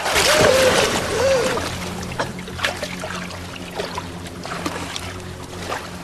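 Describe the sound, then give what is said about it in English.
Water churns and splashes, starting with a loud rush and then settling into scattered smaller sloshes and drips, as a swimmer breaks the surface of the water in a cavern and treads water. “Juno swims to the surface.”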